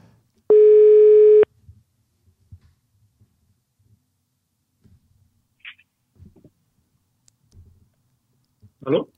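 telephone ringback tone

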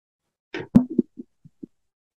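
glasses clinking

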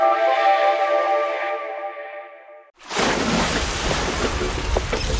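ocean surf

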